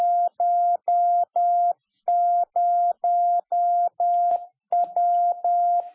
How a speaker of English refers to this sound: That electronic form of communication, Morse code, the dots and the dashed, once essential to everyday life and communication.